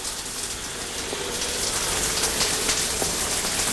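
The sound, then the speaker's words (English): A shower runs steadily in a steamy gym locker room, a dense, even hiss of spraying water with faint patters and splashes. It stays at a constant moderate level throughout, with no voices. “Sam enters the steamy locker room. Kevin Peters! His brow furrowed, Sam steps toward the shower.”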